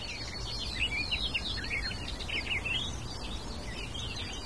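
A barred warbler sings a fast, scratchy, chattering song of rapid high notes, fairly faint over a steady low rumble, with no one talking.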